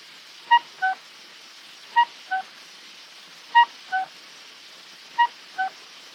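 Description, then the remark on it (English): An American Mockingbird's imitation of a cuckoo call: a two-note 'cu-ckoo', high then lower, repeated four times at a steady pace over a faint hiss, with no other voices. “Of a coconut, I mean a cuckoo.”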